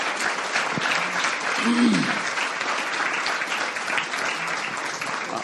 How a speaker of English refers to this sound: So we should clap for that because this is outstanding.